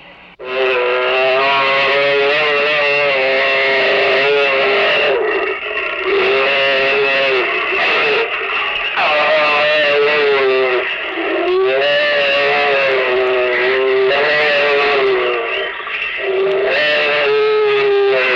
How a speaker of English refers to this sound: The sounds you will hear in a moment are the actual sounds of two tigers mating.